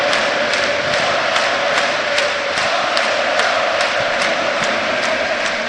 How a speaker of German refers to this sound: Das Publikum hier macht jetzt eine richtige Reaktion. Weil die wittern, da geht was. Zu Recht.